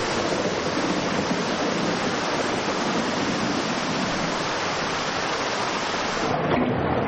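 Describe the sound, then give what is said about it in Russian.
Heavy thunderstorm rain lashes the grass in a dense, steady hiss, loud, with no pauses or voices; a downpour built from sounds by composer a composer. “А теперь крупнее, по траве хлещет дождь.”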